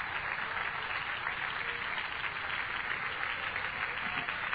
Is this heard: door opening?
no